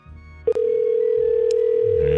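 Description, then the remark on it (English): A steady electronic ringback tone from an outgoing phone call to a number being tried, heard through the line after a brief click, holding unbroken at moderate loudness over a low background hum. “It's ringing.”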